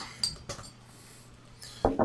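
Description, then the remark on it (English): A bottle of Dogfish Head Namaste white beer, 4.8% ABV, is cracked open: a few sharp metallic clicks and glassy clinks, spaced apart, with a faint hiss between them and no one speaking. “And crack it.”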